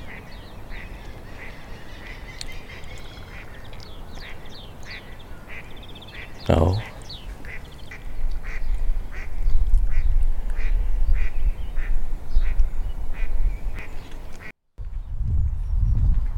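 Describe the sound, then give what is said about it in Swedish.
Ducks quack repeatedly in a steady, rhythmic series throughout, with one louder burst partway through and a low rumble of background noise; a brief spoken word is heard. “Jag är ingen fågelexpert, men and ser jag. Eller änder kanske det heter då när det är flera stycken.”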